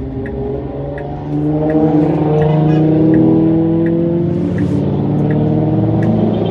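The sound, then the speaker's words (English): A line of cars drives past as the driver ahead pulls over, engines humming in a steady, continuous drone that swells slightly as traffic rolls past, with a faint, regular ticking repeating underneath. No one speaks. “Okay, there is a line of cars behind me. I'm just going to pull over.”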